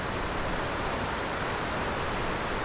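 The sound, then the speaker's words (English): A steady, dense roar of water cascading down into a large pool, broad and unbroken like heavy rushing falls, continuous with no voices; one of two square memorial pools of almost an acre each, where waterfalls run down all sides more than three stories deep. “Each pool almost an acre, with waterfalls running down all eight sides more than three stories deep.”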